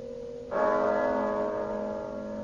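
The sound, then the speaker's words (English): A church bell tolling the hour of one strikes once, loud, following a fading earlier ring; its rich humming overtones sustain and slowly decay, with no voices present. “But as the bell sounded, light flashed up in the room.”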